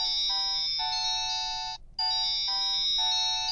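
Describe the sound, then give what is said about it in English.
A bright, customized mobile phone ringtone plays a looping synthesized melody of steady tones, pausing briefly midway before resuming, clear with no voices. “We even customized our rings.”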